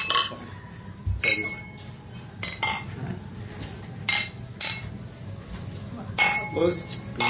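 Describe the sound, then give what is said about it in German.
A series of bright glass clinks as beer glasses are touched together in a toast, several sharp ringing taps spread unevenly over a few seconds, with faint low murmuring in the background. “Da sollten wir echt jetzt mal anstoßen. Prost!”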